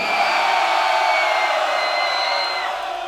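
A large concert crowd screams and cheers loudly and continuously to vote for which of two title songs the band should play, a dense, high-pitched roar of many voices that holds steady throughout, with no single speaker standing out.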